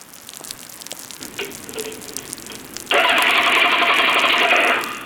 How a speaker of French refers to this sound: Super le scooter. Ma batterie est foutue, et je fais comment pour rentrer, moi, maintenant ?